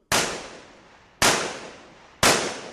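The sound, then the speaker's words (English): Three sharp gunshots crack out about a second apart on Rua Mata Machado, a quiet residential street in northern Rio de Janeiro, Brazil, about a kilometre from the Maracanã football stadium, each with a long echoing tail that rings off surrounding buildings, fairly loud and with no voices heard. “Gunshots ring out on Rua Mata Machado, a quiet residential street in northern Rio de Janeiro, about a kilometre away from the world-famous Maracanã football stadium, where the 2014 World Cup final will be played.”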